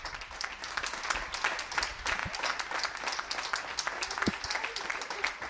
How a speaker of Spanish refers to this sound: No solo en Bilbao, sino en todos los pueblos de Vizcaya, ni la lluvia ni la tormenta ahogan los aplausos.